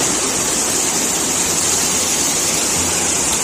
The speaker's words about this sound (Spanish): Así sonaba el agua cayendo por una de las bocas del metro en Madrid. La ciudad llegó a registrar en 24 horas más de 100 litros por metro cuadrado.